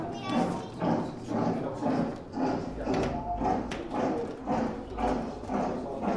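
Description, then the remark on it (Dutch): Steady, rhythmic thuds of the boots of many German Prussian soldiers in helmets marching in step, a regular beat of footfalls repeating about twice a second at moderate loudness, with a low murmur of voices underneath. “Ik zie ook Duitse, Pruisische soldaten. Je ziet dan de helmen die we ook herkennen van de Tweede Wereldoorlog. Je hoort ze marcheren.”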